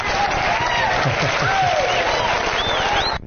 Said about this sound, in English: Well, absolutely, you deserve that applause.